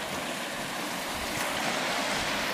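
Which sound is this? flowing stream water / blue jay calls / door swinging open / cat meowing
flowing stream water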